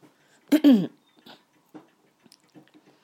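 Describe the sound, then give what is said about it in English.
A dog chewing, heard as faint, irregular wet clicks and gnaws spread across a few seconds, with one short, louder throaty vocal sound near the start. “Really having a good old chew of something out there.”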